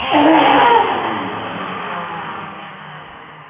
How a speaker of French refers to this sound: Le nettoyage, la purification, le son Ram. Puis quand c'est le moment, on rugit.